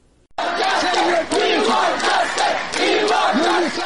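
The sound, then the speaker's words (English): A crowd of Afghan protesters in New Delhi, India, demanding refugee status after the Taliban takeover, chants slogans outside the office of UNHCR, the United Nations Refugee Agency, in loud, rhythmic unison, many voices rising and falling in repeated phrases that begin abruptly and continue steadily. “These slogans by Afghans living in New Delhi have been ringing in the aftermath of the swift Taliban takeover outside the office of UNHCR, the United Nations Refugee Agency.”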